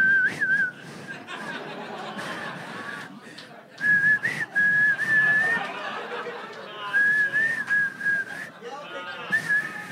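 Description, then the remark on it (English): A person whistles a wavering, tuneless melody in several short bursts, clear, while background chatter and a few chuckles carry on underneath. “I fucking hate listening to people whistle for them. Whistle for them.”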